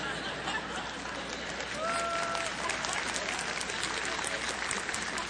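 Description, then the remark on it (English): A crowd applauds steadily, a dense wash of many hands clapping at an even loudness throughout, with a brief whistle-like tone rising faintly above it partway through. “Why you would clap for that, I have no idea.”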